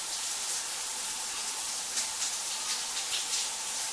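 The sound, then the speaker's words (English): A steady, unbroken hiss of shower water spraying, bright and even in level for the whole stretch, with faint fluttering variations in the spray and no voices. “If I pay the water bill for this month, will you let me shower in peace, asshole?”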